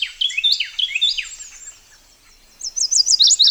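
A Carolina wren sings in the understory of an eastern hardwood forest in May: bright, rich repeated phrases, a rolling burst of notes, a brief pause, then another rapid run of ringing notes, clear with no voices.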